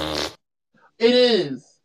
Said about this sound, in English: Oh my god, it's so loud. Stop. Oh my god. Wait, what's this? Is this a fart?